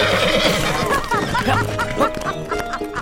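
Two horses whinny loudly, shrill neighs overlapping, while quick hoofbeats start up underneath as they leap forward and race off at a run. Faint clucking fowl sounds in the background.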